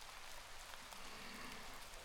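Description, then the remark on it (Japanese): Steady rain patters on surfaces, a dense, even hiss of drops with occasional sharper taps, continuous, with no voices. “まあ雨嫌いじゃないから。”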